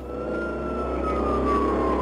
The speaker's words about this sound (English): Once I heard the sirens coming, I ran down to the street.